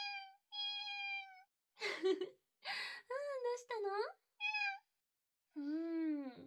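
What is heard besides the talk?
cat meowing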